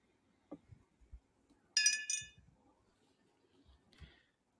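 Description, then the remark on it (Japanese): Two bright glass clinks ring out in quick succession, fairly loud, with a shimmering tail, surrounded by soft low thuds and faint background shuffling: two glasses of beer clinked together in a toast at a bar. “では、今日の素敵な夜に、乾杯。”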